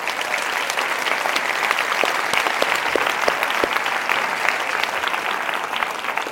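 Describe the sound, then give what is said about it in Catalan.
An audience at the Sitges festival applauds the festival's volunteers steadily for several seconds, a dense, even wash of many hands clapping with scattered sharper claps standing out, sustained at a constant loud level without speech. “Así que, dedicando también un fuerte aplaudimiento a los voluntarios, como siempre, de este festival, que cumpleis 25 años.”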